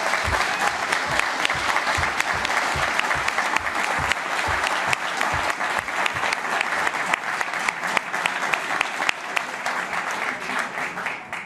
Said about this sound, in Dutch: dat daverend applaus, dat is echt helemaal voor jou.